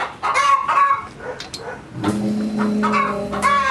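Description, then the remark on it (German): Several hens, from a flock of 35 in an enclosure in a large garden, cluck and squawk, a busy overlapping chatter of short calls and drawn-out cackles, with the flock's noise continuing steadily throughout. “Man hört es schon von weitem. Ist das gerade meine Namensvetterin Sharon? Ja, wir haben 35 Hühner.”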